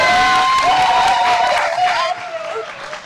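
Steady applause from an audience, a dense clatter of many hands clapping, with some voices cheering or whooping over it; loud throughout, then easing off slightly toward the end.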